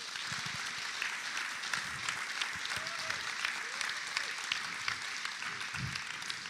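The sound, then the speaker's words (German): Sustained audience applause for the musicians and technicians, a dense wash of many hands clapping steadily at an even level throughout, with a few faint cheers rising briefly within it. “Erstmal überhaupt finde ich, dass das krass ist, schon immer zu wissen, hey, wenn Mitarbeiter so früh unterwegs sind, 8 Uhr sind tatsächlich unsere Musiker hier und unsere Techniker, gebt ihm mal einen fetten Applaus.”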